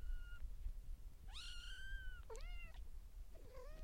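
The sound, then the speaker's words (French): A kitten meows three times in a row, high-pitched and rising, each cry a bit shorter than the last, over a faint low background hum. “Donc ce qui fait que vous aurez la vraie sonorité du chaton.”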